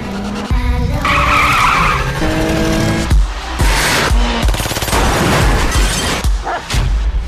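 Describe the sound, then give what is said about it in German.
Loud car-chase effects: screeching tire skids with strained engine roars, followed by several abrupt crashing impacts and bursts of noise, layered densely with no talking. “Wenn sich diese Geräusche für euch gerade angehört haben, wie eine durchschnittliche Folge Alarm für Cobra 11, dann seid ihr schon mal auf einer heißen Spur.”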